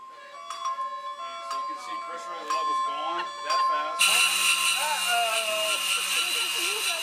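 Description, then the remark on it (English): Electronic alarm tones from a simulator's alarm system, running a simulated bad scenario, chime in repeated melodic beeps. Partway through, as the scenario escalates, a louder, denser wall of overlapping alarms kicks in and keeps blaring steadily to the end. “They simulated a bad scenario for us so we could hear what the alarm system sounds like.”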